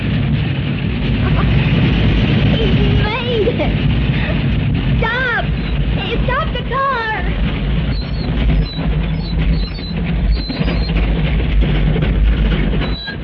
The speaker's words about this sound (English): That's a Model T Ford, chum. And 5 will get you 10. It doesn't even get up this hill. I'll bet it does. Watch. See? I told you.